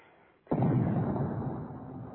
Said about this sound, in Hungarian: Mohamed nagy ágyúja szól a Romanus kapu előtt.